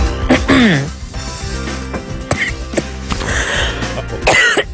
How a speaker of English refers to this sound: Well, … hosts Morning Express, and she had a bit of a bad moment the other day. She came on and just could not stop coughing. This is every broadcaster's nightmare.